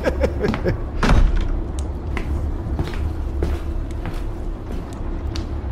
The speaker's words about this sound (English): Move along and let me shut this door. Oh my, would you listen to it creak? Ain't no shop worth its salt if it ain't got its very own creaking hinges. Oh, a bit like me bones.